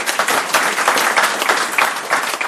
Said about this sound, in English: As usual, my thanks to my helpers. Can be fantastic in the middle there. Little round of applause at the end of the year.